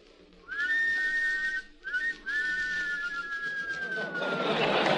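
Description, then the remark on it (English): Two men wolf-whistle together in close harmony: a rising whistle, a quick short one, then a long drawn-out whistle that sags down, fading into a burst of noisy crowd reaction. “Wolves in harmony, huh? Well, when we whistled, how would the girls respond”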